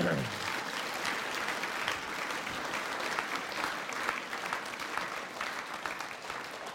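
A crowd of people claps steadily for those who helped set up new chairs, a dense, sustained wash of applause that holds at an even level for several seconds without any talking over it.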